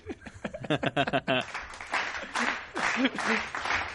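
A brief burst of voice gives way to a canned applause sound effect played from a button, a dense, steady wash of many hands clapping that holds for a couple of seconds.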